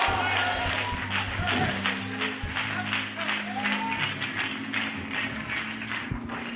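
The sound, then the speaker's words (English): A church audience claps their hands together in a loud, steady rhythm for several seconds, the dense clapping layered over a sustained low hum of instruments and faint voices. “Clap your hands and say glory.”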